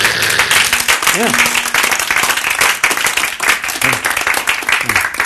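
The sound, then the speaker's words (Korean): An audience applauds loudly and steadily for about five seconds, a dense wash of many hands clapping, with a few brief voices or calls rising above it. “박수 좀 보내야 되지.”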